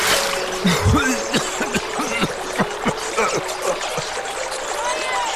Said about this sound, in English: For a moment he relaxed, and his face dipped under the water.